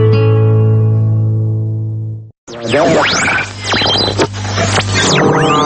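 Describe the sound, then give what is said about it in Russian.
A loud electronic radio-art piece that mimics shortwave interference: a steady buzzing drone of stacked tones cuts off, then gives way to sweeping whistles, warbling squeals and hissing static bursts. It is the composition "Radio on Radio" by German radio artists, devoted to the art of radio. “Вы слышите не кратковолновый шум и помехи. Это композиция немецких радиохудожников «Радио на радио», посвященная искусству радио.”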